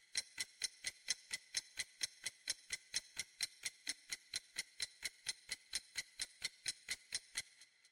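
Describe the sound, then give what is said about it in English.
A countdown timer ticks steadily during a 10-second observation challenge, repeating about four times per second, each tick sharp and bright, continuing evenly for several seconds with no voices. “Now get ready and start the timer.”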